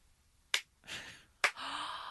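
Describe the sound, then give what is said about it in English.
Two sharp, deliberate handclaps, nearly a second apart, form a slow clap given at a restaurant table. Soft breathy hissing fills the gaps between and after the claps, and no one speaks. “A slow clap.”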